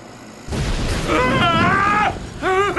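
A sudden loud blast bursts in and leaves a heavy, sustained rumble as a fire breaks out, while voices shout and cry out for help over the noise.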